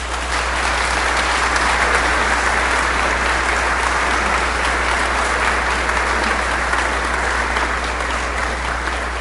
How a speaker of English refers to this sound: Let's give him all a round of applause.